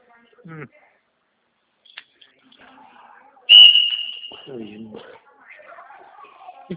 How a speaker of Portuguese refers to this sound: Escutei um apito aí, que sou professor de educação física também.